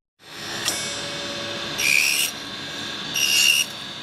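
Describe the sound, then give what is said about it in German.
A circular saw blade slices millimetre-thin, fingertip-sized discs off a preformed wooden rod, making parts for Christmas ornaments, in two short, rasping, high-pitched bursts over a steady machine hum, with a brief click before the first cut. No one speaks. “Scheibe um Scheibe, millimeterdünn schneidet das kreisrunde Sägeblatt kaum fingerkuppengroßes Stückchen von der vorgeformten Holzstange ab.”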